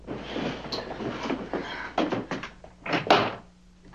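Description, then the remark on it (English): A door is pushed open with creaks and rattles, then lands with a couple of heavy thuds, followed by a short quiet tail. “Oh, shut the door, shut the door.”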